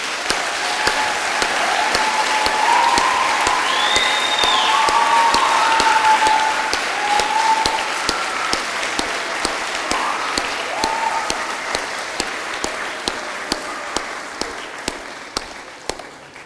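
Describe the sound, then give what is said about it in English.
A crowd applauds steadily in appreciation of a departing pastor and his wife, for about fifteen seconds, the dense clapping fading toward the end, with a few cheers and voices rising through it early on. “Let's appreciate them with some applause.”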